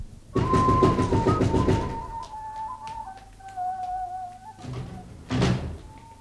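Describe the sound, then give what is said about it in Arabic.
A rapid, loud, hurried flurry of knocks on a door by Khabbab, unlike his usual way of knocking, followed by a pause and two shorter bursts of knocking, with faint sustained tones humming underneath. “لقد قرعت الباب على غير طريقتك.”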